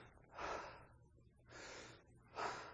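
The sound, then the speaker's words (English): A speaker demonstrates normal, powerful breathing: three strong, forceful breaths, each a broad airy rush, evenly spaced about a second apart, with no talking in between. “Normal breathing has power to it.”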